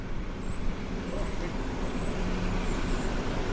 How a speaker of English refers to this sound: Garbage truck. Oh, garbage truck. Garbage truck, red light. Red light, garbage truck.